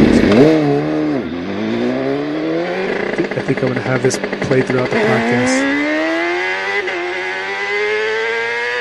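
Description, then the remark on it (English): A super sport racing motorcycle engine revs hard as it races through the streets, its whining pitch dipping, then climbing steadily as it gains speed, loud, while a man talks over it. “Dude, I love my motorcycle. It's just like that, bro. This is fast, fast, huh?”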